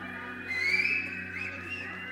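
Several children on a stage whistle at once, their thin, wavering tones overlapping in a steady two-second burst that swells briefly before settling, with no talking.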